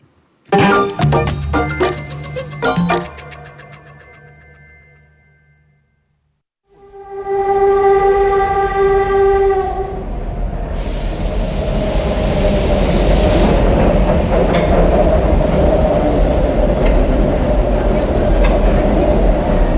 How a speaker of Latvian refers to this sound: Man ļoti grūti pateikt, vai šīs skaņas piederētu vilcienam tieši 1980. Gadā Rīgas stacijā, bet vilciens tas ir.